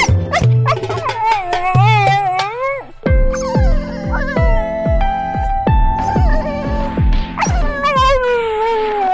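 dog yipping and whimpering

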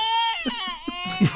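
baby crying sound effect

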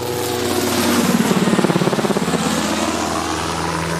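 helicopter flying

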